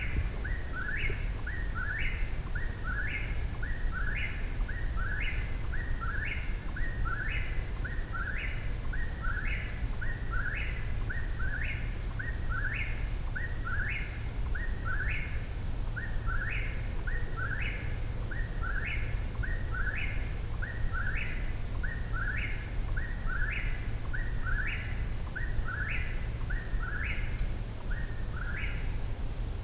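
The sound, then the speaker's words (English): A whippoorwill sings its three-part call over and over in a steady rhythm, roughly once a second, clear and high above a constant low rumble of background noise. No one speaks. “But meanwhile, let's listen to this whippoorwill.”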